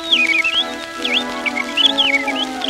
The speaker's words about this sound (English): The next to be heard was the pretty blue jay.